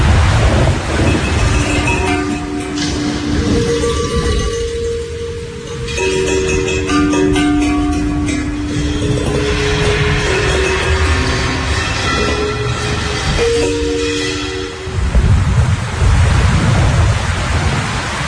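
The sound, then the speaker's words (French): Heavy rain pours down in a steady, dense roar during a thunderstorm at night, with a deeper rumbling undertone swelling and fading throughout. No voices are heard. “On va écouter l'orage et la pluie, c'est trop beau.”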